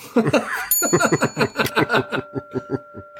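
signal or alarm, bell rung

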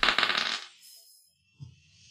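household object, dice being rolled

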